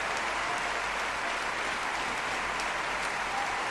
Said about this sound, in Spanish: Mira qué aplausos. ¿Qué es lo más que le puede gustar a un actor, a un cantante, a un cantante de ópera? Que te reconozcan, que se levanten y que te aplaudan.